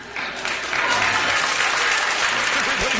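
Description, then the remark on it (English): A crowd applauds steadily for about three seconds, dense clapping that swells slightly after the first moments and stays loud throughout, with faint voices mixed underneath. “Why are people applauding?”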